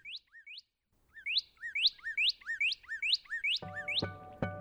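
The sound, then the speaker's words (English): A brilliant red northern cardinal sings a clear, repeated series of loud downslurred whistles, about a dozen notes in quick steady rhythm, bright, with a brief buzzy noise near the end; a recording from the Macaulay Library at the Cornell Lab of Ornithology. “So wherever you are, you're likely to hear the cheer, cheer, cheer of the brilliant red cardinal.”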